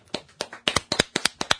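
Brief applause: a dozen or so sharp, crisp hand claps in a quick, slightly uneven rhythm, some overlapping as if from a few people, with no one talking.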